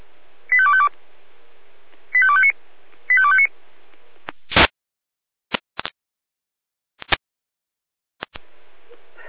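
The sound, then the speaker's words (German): Alarm call tones on the radio from the Jena dispatch center (Leitstelle Jena): three short, evenly spaced bursts of high electronic beeping, followed by abrupt static clicks and crackling bursts separated by silence, ending in faint hiss. “Leitstelle Jena Alarmruf.”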